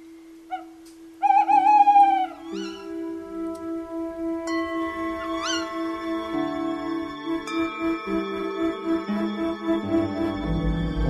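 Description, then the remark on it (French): A few wavering, hooting owl calls ring out early on, then fade into a steady low drone layered with soft tones, giving a still nighttime atmosphere with no one speaking. “On entendait également les petits bruits des animaux nocturnes, comme les ululements des hiboux et des chouettes.”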